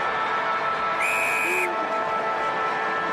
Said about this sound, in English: Getting back, Hogan put it to grass. Buse, of all people, on the siren.